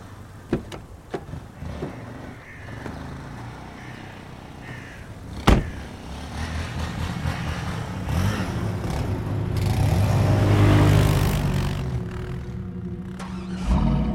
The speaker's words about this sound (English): The truck rides on the wet, snow-surrounded highway.